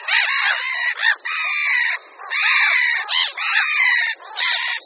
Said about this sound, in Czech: A když k tomu připočteme, že na blížícího se člověka, nebo dejme tomu lišku, začnou rackové střemhlav naletovat v předstíraném útoku, můžeme velké racčí kolonie označit za pevnosti, jejichž hradbami je pokřik a děly nálety racků.